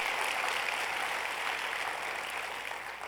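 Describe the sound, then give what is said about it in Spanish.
Steady, dense applause from an audience during a Christian sermon, clapping as an applause to God, a continuous crackle of many hands clapping at an even level for about three seconds, with no voices heard over it. “Poderosísimo, un aplauso a Dios.”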